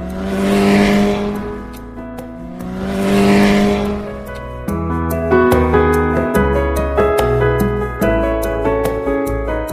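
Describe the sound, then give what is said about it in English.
A motorcycle engine revs loudly twice, each rev swelling up and fading, before a cheerful music track starts and plays on with no engine noise. “I see a motorcycle. Let's ride the motorcycle.”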